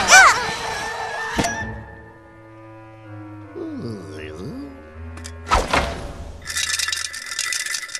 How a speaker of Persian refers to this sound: آره این همون صدای جرنگ سکه هاست که دوست دارم بشنوم.